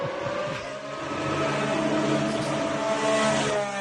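The Aston Martin Honda Formula 1 car engine on its first lap drones loudly and steadily for a few seconds, its layered high-pitched harmonic whine holding and slightly rising in pitch, with no voices.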